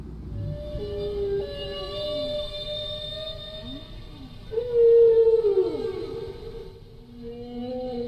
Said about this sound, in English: They also do strange things like doing ABA form, where they make a statement. Now that's one phrase, and the whale repeats its phrase and sort of yodels the second time. Here, I'll show you what I mean.